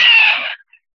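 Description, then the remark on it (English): A single short, high-pitched squealing scream from a person during a deep emotional clearing lasts about half a second and fades out, followed by a tiny faint squeak. No talking. “I only cough and did a little silent squeal screams like that when it's real deep clearing.”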